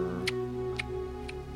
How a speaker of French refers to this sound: Un petit bruit de tic-tac derrière, c'est pour Christopher Nolan Dunkerque.